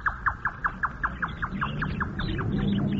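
A Japanese jungle bird calls in a rapid, evenly spaced series of about a dozen sharp, bright notes that fade out as a low, steady rumble swells underneath.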